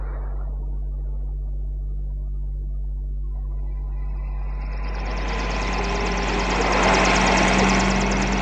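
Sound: helicopter engine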